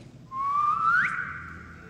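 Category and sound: human body sound, a man whistling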